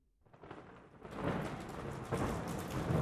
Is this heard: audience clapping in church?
no